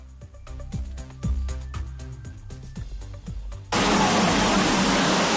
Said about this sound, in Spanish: Así sonaba la tromba de agua que ha caído en la localidad extremeña de Zafra, pero que también se han visto afectados otras localidades como pueden ser Mérida, Almendralejo o Villafranca de los Barros en la provincia de Badajoz.